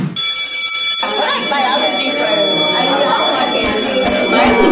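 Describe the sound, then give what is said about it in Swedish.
A loud school bell in a sketch about a history lesson starts abruptly and rings continuously for several seconds with a steady, high, buzzing metallic tone, while a murmur of voices carries on underneath. “Då ringer det klockan.”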